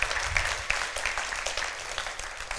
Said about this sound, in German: Großartiger Applaus fürs Pferd.